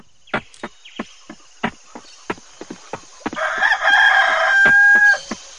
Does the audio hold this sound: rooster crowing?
yes